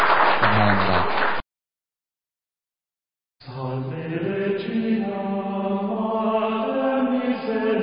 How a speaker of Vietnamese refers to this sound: Chúng ta tạ ơn Chúa, xin dâng lên Chúa một tràng pháo tay.